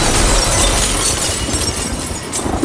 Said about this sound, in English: It makes an insane noise, it shatters glass, whoa. And all of a sudden, there's a, 60-mile-an-hour storm, blowing through our apartment.